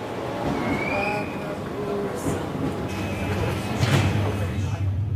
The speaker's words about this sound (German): Auf der Bahnstrecke von Innsbruck zum Brenner verkehren nicht nur die Fernzüge, sondern auch im Stundentakt eine S-Bahn. Und in der bin ich jetzt mit relativ vielen Leuten unterwegs.